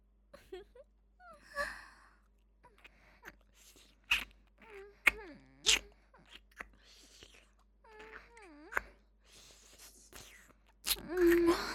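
heavy panting breaths

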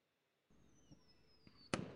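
fireworks exploding

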